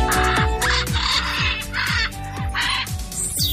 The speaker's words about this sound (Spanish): Así gritan los guacamayos. Los guacamayos son unos loros muy grandes y en la Casa de Colón, aquí en Gran Canaria, hay dos guacamayos, uno azul y otro rojo.